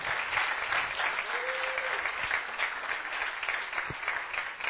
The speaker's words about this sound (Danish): Skal vi ikke lige klappe alle vores skuespillere?